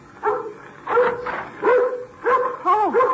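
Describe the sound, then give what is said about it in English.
A dog barks repeatedly, five or six sharp yapping barks in an uneven rhythm, some with a whiny, rising-and-falling pitch, with no talking over them. “now you stop your barking.”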